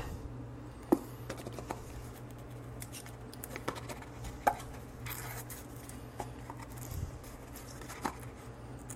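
Someone struggles to open a food package marked 'open here': crinkly plastic rustling and tugging, broken by a few sharp snaps and pops, over a steady low hum. Nobody speaks.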